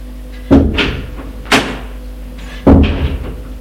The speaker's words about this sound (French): Il se dégage, ouvre la porte et sort.